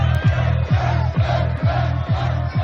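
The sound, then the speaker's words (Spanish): A large outdoor crowd in the Virgen Blanca square, waiting for Celedón, roars steadily, a dense wash of many voices with regular rhythmic pulses, like collective chanting or clapping, running through the whole stretch. “En la Virgen Blanca la gente esperando a Celedón.”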